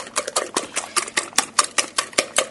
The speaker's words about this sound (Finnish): Mä pitää aika voimakkaasti vatkata tämä smetana ja kananmuna tänne, että se sekoittuu.